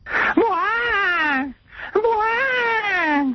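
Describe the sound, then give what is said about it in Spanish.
Two loud, drawn-out wailing cries, each about a second and a half long, with a short gasping pause between them. They rise and then sag downward in pitch like exaggerated sobbing. “Ya están los blanquitos llorando.”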